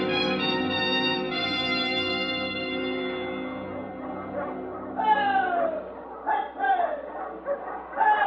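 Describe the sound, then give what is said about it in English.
A sled dog team, led by a big husky with a white star, barks and yelps in short, sharp bursts, several voices overlapping, coming in after a steady sustained tone that fades beneath them. “You look, dog team. Lead dog. Marco's dog.”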